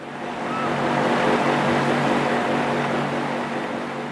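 A water pump extracts water from one of the two wells that keep Water World open, its motor droning with a low hum beneath a continuous rush of flowing water, loud throughout with no voices.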